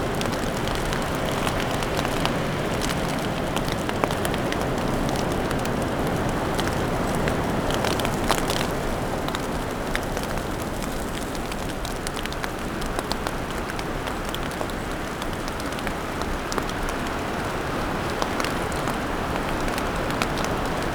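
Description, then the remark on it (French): A light snow shower falls with a steady, even hiss and fine pattering ticks on surfaces, continuous for the whole stretch with no voices. “Petite averse de neige.”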